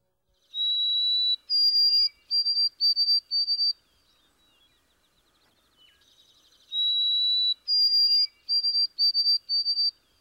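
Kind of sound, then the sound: bird, white-throated sparrow song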